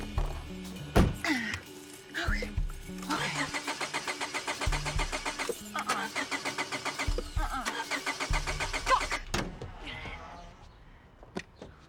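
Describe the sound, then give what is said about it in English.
A car engine cranks over and over without catching, a loud, rhythmic churning that comes in several attempts with short pauses between them before falling quiet. “My car shit the bed again.”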